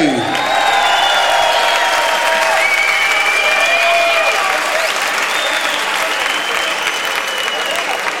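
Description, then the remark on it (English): Sustained, loud audience applause with cheering and whistles at a live concert as a band member who plays guitar and keyboards and sings is introduced, rising above the dense clapping and holding steady for the whole stretch without a break. “Y también, also from São Paulo, Brazil, playing guitar, playing keyboards, and singing a lot of fucking vocals with me tonight. Give it up”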